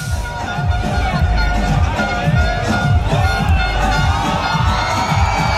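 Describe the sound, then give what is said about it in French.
A crowd of about 12,000 people on Place du Capitole in Toulouse, France, cheers and shouts loudly and without pause in the evening as the Toulouse rugby team bus arrives and the players, led by Didier Lacroix, step off. Many voices blend into a dense roar, with higher-pitched yells and whoops rising above it. “Voilà, ça crie dans la foule.”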